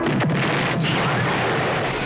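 A bomb released through an aircraft's open bomb bay doors explodes: a loud, sustained roar of crashing, rumbling noise with a couple of sharp bursts near the start, filling the whole clip with no voices.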